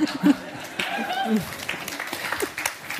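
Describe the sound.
Thin, scattered audience applause in response to a call to abolish capitalism, a handful of claps patting along unevenly for a few seconds, with indistinct voices murmuring underneath.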